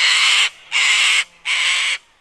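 Cockatoo screeches, three loud, harsh, raspy calls in a steady rhythm, each about half a second long, with a fourth starting at the end. No one speaks.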